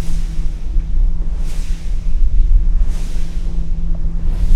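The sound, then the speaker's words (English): Offshore wind turbine blades turning on the Baltic Sea shore a few miles outside Copenhagen, Denmark. It is one of three turbines owned by Dong Energy, each 500 feet tall with three blades close to 200 feet long. A steady low mechanical hum lies beneath rhythmic airy whooshes every second and a half, with no voices. “That's one of three offshore wind turbines here that belong to the Danish company Dong Energy.”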